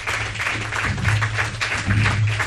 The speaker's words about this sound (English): I do want to thank our park staff for all their assistance with today's luncheon. And in my opinion, you can't find a much better place to get in the Christmas spirit, again, if you ask me. So let's give them a round of applause, if you would.